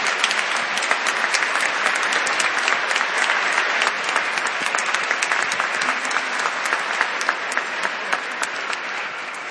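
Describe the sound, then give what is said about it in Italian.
An audience breaks into sustained applause to welcome young children, dense overlapping clapping at a steady level for several seconds, with no speech over it. “E penso che con un applauso possiamo anche dire la nostra accoglienza di questi bimbi.”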